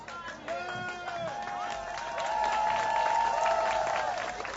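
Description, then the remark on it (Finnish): An audience at an awards presentation applauds steadily, dense clapping with some cheering and voices mixed in, swelling louder partway through and holding at that level. “Voidaan ajatella, että nämä aplodit ovat vaikka Venäjälle niille tahoille, jotka uskaltavat toimia.”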